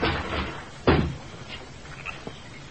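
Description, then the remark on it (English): The wooden door of a log cabin is kicked open with one heavy, sharp bang that rumbles briefly, followed by a few faint creaks and small knocks. No one speaks. “I'll kick open the door.”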